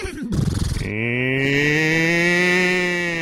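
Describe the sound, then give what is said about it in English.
A person imitates a cow, letting out one long, loud, drawn-out moo that starts with a rough, gravelly onset and settles into a steady, sustained vocal tone. “I can do a cow pretty good.”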